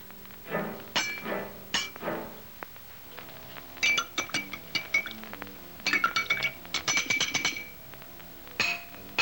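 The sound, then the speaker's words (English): A woman at a table taps a spoon repeatedly against her water glass in irregular bursts, each strike giving a bright, ringing clink with a sustained high tone, some taps quick and clustered, others spaced apart. “She taps her water glass with a spoon.”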